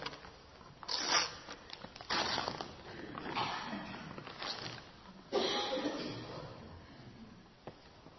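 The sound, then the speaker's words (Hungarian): Wrapping paper is torn and crinkled in a series of loud, ragged bursts as a wedding gift containing a set of drinking glasses is unwrapped, with quieter rustling between the rips and one sharp tap near the end. “Nézzük meg, mi van benne. Nem tudok szépen bontani.”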